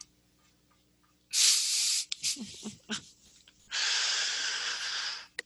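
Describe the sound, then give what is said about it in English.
A female cat paws at a dresser drawer to open it, making two long rough scraping rushes separated by a handful of short scratchy taps and knocks, with no talking. “She has figured out how to open the drawers.”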